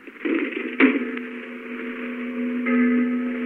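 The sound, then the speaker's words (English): A church bell is struck and rings on during a severe winter snowstorm at night, its low, steady hum sustained with bright overtones; a second stroke swells the tone near the end. No voices are heard. “It's the church bell, all right.”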